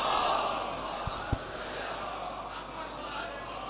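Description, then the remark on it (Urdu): A large crowd shouts back in unison in response to the slogan call "Nara-e-Haidari", a dense, sustained roar of many voices that stays fairly steady, with a couple of brief thumps partway through. “نعرے حیدری, بابا جی بلے, نعرے سرواز.”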